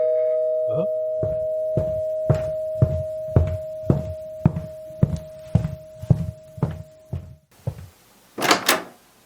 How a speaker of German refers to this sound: Oh, es klingelt.